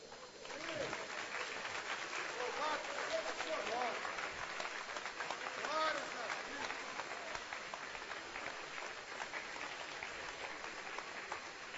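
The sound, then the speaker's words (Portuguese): A crowd applauds steadily for about twelve seconds after a sermon, a dense, sustained wash of clapping with faint voices and cheers mixed in underneath. “Muito obrigado por essas palmas, mas eu acho que para Deus tem que ser muito mais, não é?”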